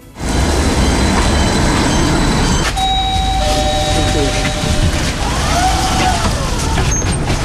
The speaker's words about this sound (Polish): Liczy ponad 40 metrów, pomieści ponad 300 pasażerów i ma 64 miejsca siedzące. Na ulicach Krakowa pojawi się najdłuższy tramwaj w Polsce. Będzie kursował na trasie linii 13 lub 4.